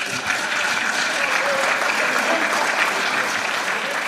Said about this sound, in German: Ganz wichtiger Applaus an der Stelle.